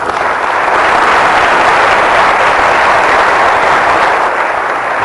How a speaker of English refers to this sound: And I really think that, as I said, deserves a round of applause.